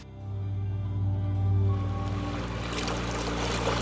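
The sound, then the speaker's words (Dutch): A boat's engine hums steadily while water rushes and splashes along the hull, the wash growing brighter and more turbulent as the boat crosses the water and nears the other side. “We zijn nu bijna aan de overkant. Ik stap hier uit de boot.”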